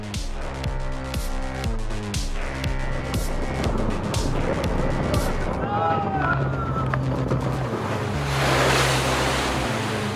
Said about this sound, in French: Les lames font plus de 10 mètres de haut.